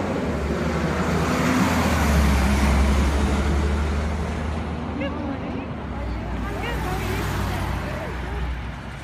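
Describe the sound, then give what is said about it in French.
Steady city street traffic at a pedestrian crossing in Atlanta as the pedestrian light turns red: a constant low rumble of passing cars, with faint chirps rising briefly above the noise and a murmur of voices in the background. “Oh, zut, le feu des piétons passe au rouge. Je vais devoir attendre.”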